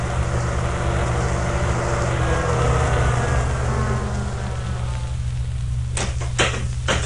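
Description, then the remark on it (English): A car engine rumbles steadily with a low droning hum as the vehicle drives up in broad daylight, then a few short sharp knocks sound near the end with no one talking. “You think a cop would come driving up here in broad daylight like that?”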